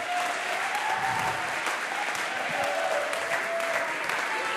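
Sustained audience applause, a dense, steady clatter of many hands clapping at an even loudness throughout, with faint crowd noise mixed in.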